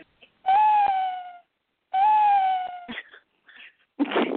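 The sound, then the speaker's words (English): A person imitates an owl hoot with two long, high, steady vocal tones that droop slightly at the end, sounding a bit like a meow, followed by a few short breathy noises. “Oh, I was trying to be an owl, but it sounds more like a cat.”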